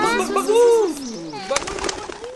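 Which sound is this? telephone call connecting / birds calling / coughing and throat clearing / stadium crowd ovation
birds calling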